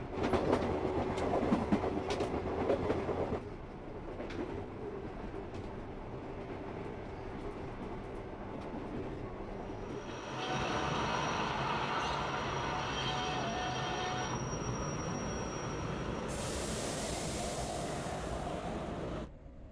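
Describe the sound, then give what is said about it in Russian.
A train of the Ashikaga–Maebashi line, bound for Takasaki, arrives at track 8 of a station platform, rolling in with a steady rumble and rhythmic clatter of wheels on rails, growing louder partway through, then a high whine as it slows near the end. “Поезд направления Асикага-Маэбаси, следующий в Такасаки, прибывает на восьмой путь.”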